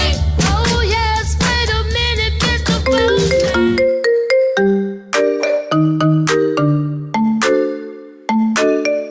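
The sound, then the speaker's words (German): A mobile phone ringtone signalling an incoming SMS text message plays loud: a dense, buzzing electronic chord for a few seconds, then a bright melody of separate bell-like notes, with no voices. “Brücke an Captain, es kommt eine Nachricht herein.”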